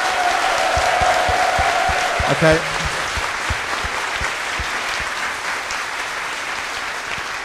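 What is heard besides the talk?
audience clapping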